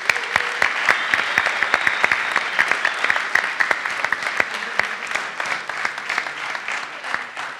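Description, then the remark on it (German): A crowd claps steadily for several seconds for people being baptized, a dense patter of many hands with sharp individual claps standing out, fairly loud and sustained without voices. “Und das ist mein Applaus wert nochmal.”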